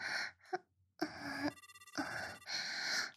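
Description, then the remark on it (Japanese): A brief, warbling electronic phone ring sounds for about half a second as a call is being placed, set between louder breathy, gasping vocal sounds. “電話をかけちゃいましたよ。”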